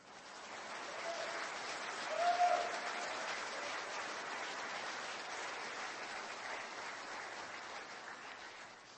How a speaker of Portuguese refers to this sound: Você pode aplaudir ele?